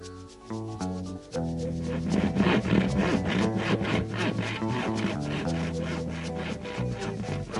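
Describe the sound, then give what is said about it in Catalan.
A saw cuts a ball into three pieces in quick, steady back-and-forth strokes, a raspy rhythmic scraping that starts after a brief pause and continues over a sustained musical backing, with no voices. “Porteu una serra.”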